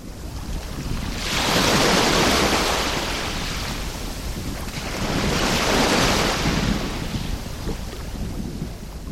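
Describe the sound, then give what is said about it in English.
Ocean waves break on Kuramo Beach in Lagos, Nigeria, two broad surges of rushing surf swelling and fading over a constant low roar, fairly loud, with no voices. “This is the Kuramo Beach overlooking Lagos, Nigeria.”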